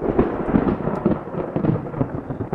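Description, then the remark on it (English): Loud thunder rumbles continuously directly overhead on a muggy day, a deep sustained roll with rough swelling peaks throughout, heard alone with no voices. “That's pretty much directly overhead.”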